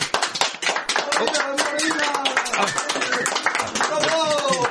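Loud, sustained applause from a large crowd in an auditorium, greeting an air crew who have just entered, a dense continuous patter of many hands clapping with no breaks, filling the whole stretch, with some voices mixed in underneath.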